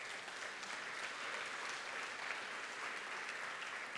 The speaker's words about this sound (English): And by the way, we have a great group of young adult, youth, and children's leaders. Can we please give them a round of applause right now?